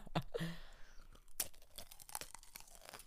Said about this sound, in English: These are the pickles. No way. I don't know how we're about to do this. I'm going to break a tooth on this. I mean, this thing is huge.